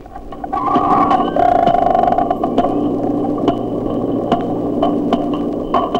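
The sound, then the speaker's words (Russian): Dolphin echolocation clicks from four dolphins investigating a microphone lowered into a pool, slowed down eight times: distinct, sharp knocks repeating at irregular intervals over a steady low underwater rumble, with a faint tonal whine drifting through the first couple of seconds. “Чтобы понять, как действует локатор дельфинов, попробуем замедлить запись для начала 8 раз.”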